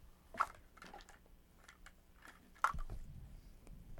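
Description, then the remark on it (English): A brown horse munches on hay, with soft, steady chewing broken by a couple of louder, crisp crunches. No voices are heard. “To stay strong and healthy, the brown horse eats all day. In the stable or the field, he munches on some hay.”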